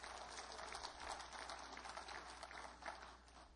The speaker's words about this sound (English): Come on, somebody. Give a good clap for me.